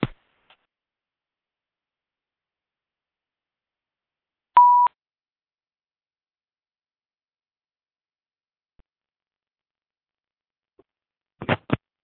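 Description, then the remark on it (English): A conference call join chime: one short, steady mid-pitched beep in near silence, followed several seconds later by a quick cluster of brief clicking bursts. “Yeah, you're the chimes.”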